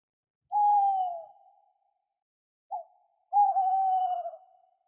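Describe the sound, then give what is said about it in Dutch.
A tawny owl hoots at dusk: a long, clear hoot, a pause, a brief soft note, then a drawn-out quavering hoot, standing alone against silence. “De bosuil, roepen de kinderen in koor.”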